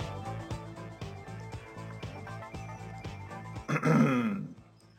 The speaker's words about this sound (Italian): Già, ogni tanto bisogna schiarire la voce.